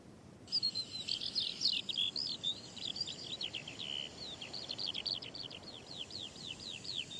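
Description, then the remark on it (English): A small bird sings a rapid, continuous series of high, sharp chirps and trills among sand dunes, steady, with no talking and only faint background hiss. “There's a kind of Morse code quality about birdsong.”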